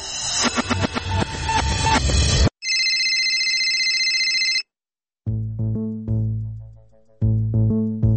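A mobile phone ringtone for an incoming call plays loud with no one talking: a busy melodic jingle, then a bright electronic trill, and after a short pause a lower repeating tune that rings twice.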